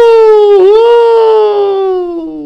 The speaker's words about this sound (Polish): A ja słyszę syrenę. Karetka.